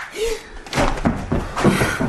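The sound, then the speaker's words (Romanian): A sharp slap lands with a loud smacking crack, followed by a few more thumping impacts and rustling movement, with no clear speech. “Nu, idiotule. De data asta a fost o palmă.”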